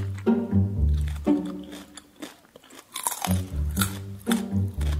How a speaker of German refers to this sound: So, und dieses Kaugeräusch, das lasse ich jetzt mal hier laufen. So ganz leise im Hintergrund. Und dann sehen wir ja mal, ob das nervt.